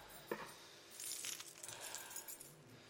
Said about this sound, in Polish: Moi kochani, każdy z nas ma różne klucze. Tak? Używacie klucze? Ja dzisiaj przyniosłem różnych kluczy, trochę dość.